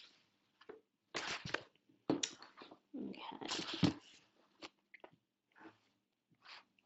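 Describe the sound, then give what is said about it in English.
Quiet sipping of water: a handful of short wet slurps and gulps in irregular bursts, separated by brief silences, with no voices. “I'm a sip of water, sorry.”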